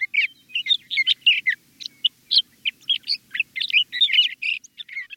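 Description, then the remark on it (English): A male sage thrasher sings a long, rambling territorial song in spring, from tracts of sagebrush in the West. The song is a continuous jumble of rapid warbled phrases and chirps, loud, with no other sounds. “This glorious song rings out every spring from tracts of sagebrush throughout the West. A male sage thrasher is proclaiming his territory.”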